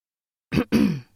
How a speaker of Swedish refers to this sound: Jag harklar mig i mikrofonen.